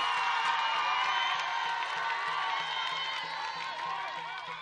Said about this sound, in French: On applaudit très, très, très, très fort pour lui.